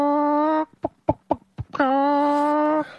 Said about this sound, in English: It's you doing an impersonation of a hen. No. That's the chickens that's coming home to roost.